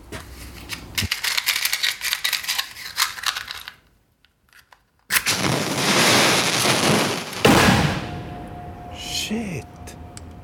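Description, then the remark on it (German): Rapid crackling and popping of firecrackers, then a short silence before a loud sustained hissing burst like a fountain firework, ending with a thin steady whistle and scattered pops. “Es ist wieder Zünzeln und Feuerle und Klepfen angesagt.”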